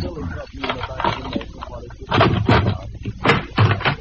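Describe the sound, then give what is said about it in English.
A pass key rattles in the lock of a locked door on an upper floor, and the door is worked open with several loud clunks and rattles, the heaviest bursts clustered toward the end. “Door's locked. You got a pass key?”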